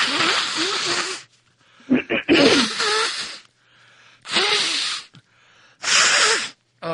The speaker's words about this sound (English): I've been wanting to blow my nose so bad. Oh, my God. I have to keep putting you on mute so that I can cough along up.